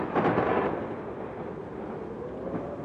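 A heavy rumble of thunder bursts loudly at first during a violent storm with lightning, then keeps rolling in a steady, deep roar that fades only slightly, with no voices.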